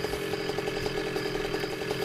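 An arriving motorcycle's engine runs with a steady, buzzing putter, even in loudness throughout, with a faint rhythmic pulsing and no voices.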